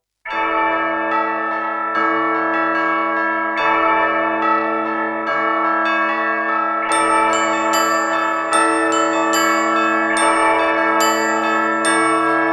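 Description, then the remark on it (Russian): A choir sings a Russian Orthodox spiritual kant, sustained full chords changing in a steady, measured pulse, loud, with the ringing harmonies giving the song a bell-like quality throughout. “Послушаем сейчас одну из них «Царь-колокол на троне».”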